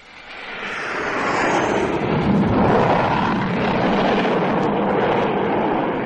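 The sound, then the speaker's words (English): A loud, broad engine roar swells quickly and holds strong as an aircraft, number two, approaching to land, passes low and fast overhead on a very cold day, a dense rushing drone with no voices. “Number two was pretty low and traveling fast, too.”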